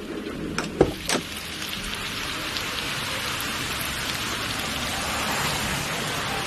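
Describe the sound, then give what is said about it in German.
Steady rain pours down at night on a street in a dense, even hiss, with a few sharper splashes or taps near the start before settling into a continuous wash. No one speaks. “Ihr Deutschland ist draußen, nachts im Regen, auf der Straße.”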